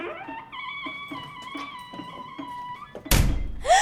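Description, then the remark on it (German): A door swings shut by itself, upstairs, just as someone reaches to pick up a telephone receiver: a single loud, heavy slam near the end cuts across a steady electronic ringing tone that plays for several seconds beforehand. No one speaks. “geht die Türe von selbst zu.”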